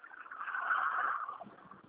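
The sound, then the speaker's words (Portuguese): A car's engine and road noise hum steadily, then ease off and quiet down as the vehicle slows to a stop, leaving a few low rumbles. “Deixa eu só parar o carro, tá”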